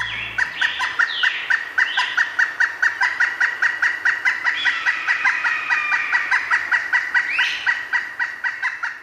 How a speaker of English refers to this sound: But I thought it would be really great to be able to hotwire a payphone and put in the sounds of the local birds so that you'd hear the sounds of the birds that were actually all around you.